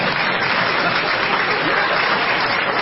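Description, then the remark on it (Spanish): Steady, dense applause from an audience fills the whole stretch, many hands clapping at once in a continuous, fairly loud wash with no talking over it. “Miren todos los simios que aplauden ahora.”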